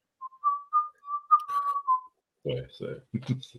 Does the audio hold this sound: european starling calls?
no